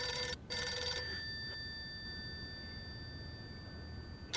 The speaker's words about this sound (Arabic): مين بده يكون؟ بس السيد أمير قال لي ما قرب على التليفون ولا رد على حدا